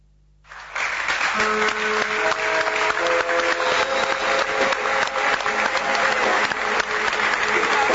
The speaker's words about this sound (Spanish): Ese aplauso fue por cómo dijiste el apellido, no por el desnudo.